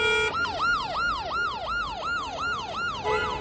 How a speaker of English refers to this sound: Endless lines of cars, bumper to bumper, nervous motorists honking away, an ambulance tries to squeeze through congested traffic.